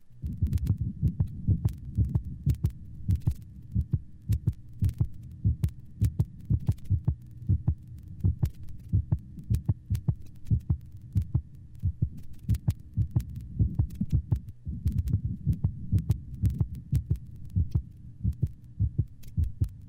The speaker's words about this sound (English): Compare the split first heart sound in the previous band to that of a normal dog without a split first sound.